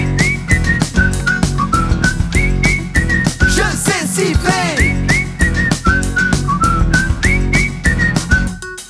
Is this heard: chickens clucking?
no